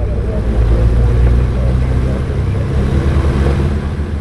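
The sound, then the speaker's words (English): A loud, steady engine drone with a deep, throbbing low hum and a constant rough roar from a Cessna propeller plane cruising at about 5,000 feet over the wetlands of Louisiana's coast, holding level without pause throughout. “Let's start by going up in a Cessna.”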